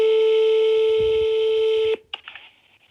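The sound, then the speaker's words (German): A steady telephone tone hums loudly for about two seconds, then cuts off abruptly with a click, followed by faint rustling line noise. “Sie kann Persisch und telefonieren.”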